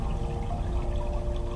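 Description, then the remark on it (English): Steady, continuous rush of a blue-grey river flowing past a grassy bank below an orchard, fairly full, with a constant churning wash and no pauses or voices. “The orchard sweeps down to a river.”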